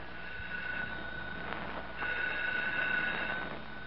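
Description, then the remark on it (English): A telephone rings in two buzzing bursts separated by a short pause, with a thin, somewhat muffled old-fashioned tone at moderate volume and no voices. “The phone's ringing.”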